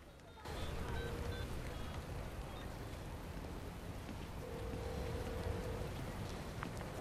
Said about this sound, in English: In pouring rain, Rose leaves her dad in the street, then instantly gets on her phone.